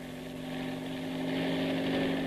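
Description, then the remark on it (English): A private helicopter's engine and rotor drone steadily and loudly at a heliport on top of Shocken Towers, a constant whining hum with a faint rhythmic churn, building slightly over a couple of seconds with no voices. “I ran across the heliport to Shocken's private helicopter.”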